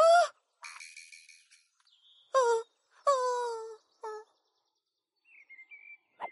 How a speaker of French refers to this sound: J'ai l'impression que Wawa a repéré un autre oiseau. C'est Rosie, l'autruche.